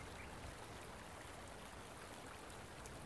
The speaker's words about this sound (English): But yeah, this is just a nice little place. Like the creek's right there, and it's really awesome that it's actually running, because it usually doesn't. You know, we don't really get like a whole lot of rain.